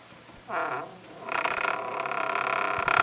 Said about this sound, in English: Squeaky door. Okay, now we're inside.